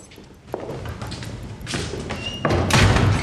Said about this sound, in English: A prison guard opens the door to the interview room, and Alex rejoins Robin.